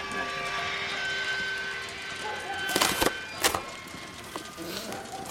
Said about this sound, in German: der Wachsoldat in dem langen Cape zieht seinen Hund vom Gleis, als eine Lore, hoch mit Säcken beladen, den Hang herabgerollt kommt. Die Hemmschuhe kreischen.